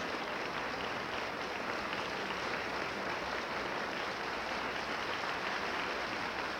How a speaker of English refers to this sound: The applause continues here, and once again, Victoria de los Angeles reappears, this time with her accompanist, Paul Burr.